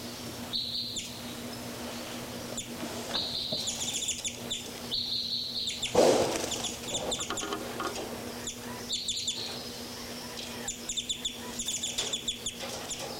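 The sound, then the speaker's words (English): Two numbered birds, 3,3 and 5,9, flying around call in bursts of high, bright chirps and some clucking, fowl-like notes, repeating irregularly over a steady low hum, with a louder flurry midway and no talking. “Birds 3, 3, and 5, 9 are flying around here. More birds, 5, 9 more active here.”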